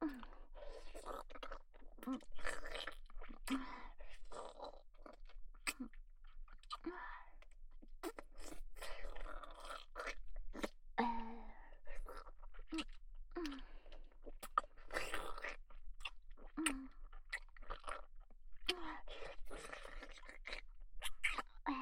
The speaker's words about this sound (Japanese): ザーメンクリーム咀嚼されてるよ。